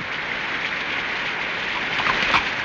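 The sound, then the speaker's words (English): Steady rain falls in a dense, even hiss with faint patters of drops, continuous, with no voices over it. “Cabs are scarce in this rain.”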